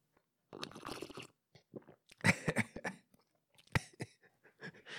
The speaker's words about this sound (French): Puis chaque semaine, je me sers un café. C'est ce que j'ai à côté de moi. Tiens, je vais prendre une gorgée pour vous le démontrer.